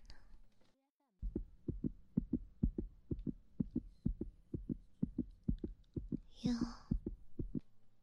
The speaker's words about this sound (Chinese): 你的心跳怎么这么快啊？怎么搞的？嗯？您平时心率也是这么快的吗？ 还是说因为我刚才说的话，所以心跳加速了呢？